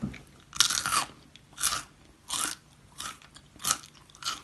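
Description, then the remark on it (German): A crunchy snack, the new snack of the week, is bitten and chewed in a steady series of six loud, crackling crunches, each a bright burst about a second apart, with no talking. “Oh, knackt aber lange.”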